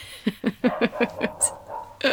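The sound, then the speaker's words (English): A female dog barks and yips in a quick, excited series of about seven short, sharp calls, clear, with a brief pause before another bark at the end. “Are you laughing at the dog?”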